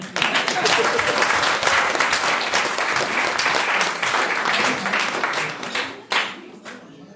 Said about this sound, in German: Ihr seht auch hier ein weit gereister Coin, der 23 Länder besucht hat, fast 70.000 Kilometer zurückgelegt hat und dafür gibt es nicht nur eine Urkunde, ja, Beifall hier.